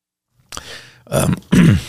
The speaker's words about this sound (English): a little cough there.